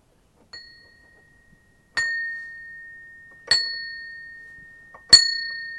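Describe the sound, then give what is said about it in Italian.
A bell rings four times at a slow, steady pace, each clear, high strike lingering and fading before the next. The first strike is softer and the rest grow louder. No voices. “Presto la campana suonerà.”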